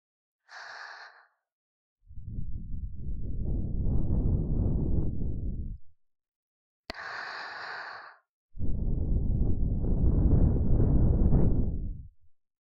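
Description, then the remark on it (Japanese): Two soft breaths blown into the ear during an ear-cleaning role-play, each opening with a brief hissy intake, then a long, steady whooshing puff lasting several seconds, with no talking. “私の吐息じゃ取れないね。”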